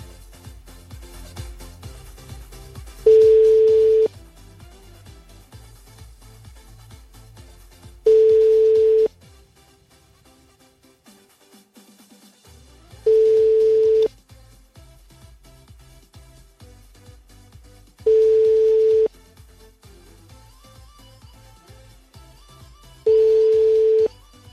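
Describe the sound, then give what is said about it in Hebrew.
A telephone busy signal from a live on-air call to the phone of broadcaster Alex Anski sounds as five steady, loud tones repeating at even intervals of about five seconds, each lasting roughly a second, over a low murmur of background music. “זה היה טלפון של שדרן בשם אלכס אנסקי”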